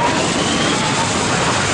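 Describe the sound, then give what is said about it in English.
A homemade rocket engine blasts off after a countdown with a loud, steady, powerful roar of rushing noise that fills the whole clip without letting up, pushing enough air to knock a statue over, with no voices. “This is a great rocket engine you've built for me.”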